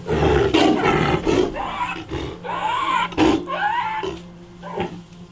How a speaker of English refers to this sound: He has gained some weight, started walking since arriving. The bloody welts that covered his body when he arrived are gone. But he still suffers from gastroenteritis, and his roar sounds like a chain smoker's cough.